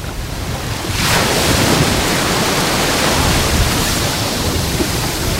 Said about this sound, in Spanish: Lo primero que voy a hacer es orientar el micrófono al mar para que escuches las olitas que hoy están de fondo. Nos van a acompañar en el programa como sonido ambiente. Así suena el mar Mediterráneo, la playa de la Charca hoy.